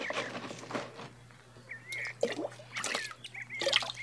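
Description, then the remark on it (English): A pitcher being lowered into well water: soft splashes and sloshing come in several short bursts, with trickling drips between them over a faint steady hum. “Here, let me help you lower the pitcher.”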